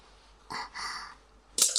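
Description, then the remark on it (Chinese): A pen drops and clicks sharply onto a hard surface near the end, preceded by soft rustling and shuffling; fairly quiet, with no voices. “哎呀，笔掉了。”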